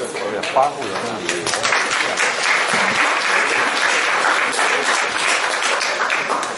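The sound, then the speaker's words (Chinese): A large audience at a Deyun She crosstalk (xiangsheng) show applauds steadily for several seconds, a dense, even wash of many hands clapping at once that stays loud and full from start to finish. “感谢你大伙的掌声。”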